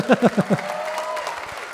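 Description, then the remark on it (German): An audience applauds a performer's act in a contest, in a steady, moderately loud wash of clapping, preceded by four short, rhythmic vocal bursts at the start. “Okay, hier nochmal euer Applaus”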